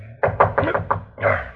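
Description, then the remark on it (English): Five quick, loud knocks rap on the door of a very cold bedroom in an even rhythm, then a heavier, more drawn-out thump follows after a short pause. No voices. “Somebody's at the door of this iceberg they call a bedroom.”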